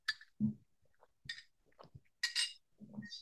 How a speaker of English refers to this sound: Sorry, y'all, if you're not watching, I just drank some water.